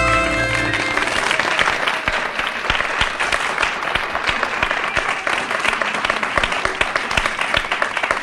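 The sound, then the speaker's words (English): A studio audience at a Happy Station special open house show bursts into loud, sustained applause for the orchestra, dense steady clapping that continues for about eight seconds as a final held chord fades out in the first moment. “And that is a very well-deserved applause for our orchestra today, and I would like to proceed and introduce the orchestra to you.”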